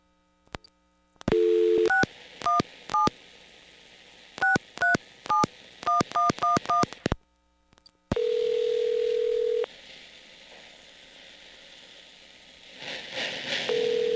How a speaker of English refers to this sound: I'm not going to deposit coins. I'm just going to dial the phone number directly.